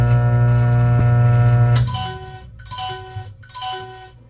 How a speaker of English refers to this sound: Set cook time minutes. Set cook time seconds. 1 second. 2 seconds. Power level high. 0 minutes. 2 seconds. Microwave running.